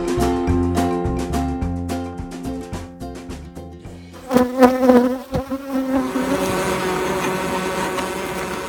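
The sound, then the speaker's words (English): A dense, continuous buzzing of a large swarm of thousands of honeybees fills the air right outside a beekeeper's house, steady and layered, swelling louder midway, with no voices present. “Those are the sounds of thousands and thousands of bees right outside my house.”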